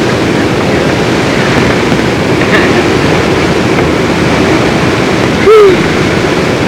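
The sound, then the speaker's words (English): Water of the Little Pigeon River rushes steadily and loudly, a constant broad wash of sound throughout, with a brief high chirp cutting through near the end. “Put your feet in the little pigeons river, huh, Granny?”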